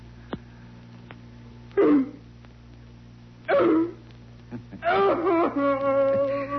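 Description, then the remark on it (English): A person imitates a dog, giving two short, forceful barks a couple of seconds apart, then a longer, strained howling bark that trails off over a low steady hum. “Louder. Louder, puppy dog.”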